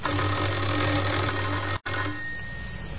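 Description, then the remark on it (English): A man presses the doorbell of a house in Oxford, and it rings in a loud, steady, buzzing tone, breaks off for an instant as he tries again, then rings again and fades slightly. No one speaks. “He had a worried expression on his face as he walked up the few steps and pressed the doorbell. Again he tried.”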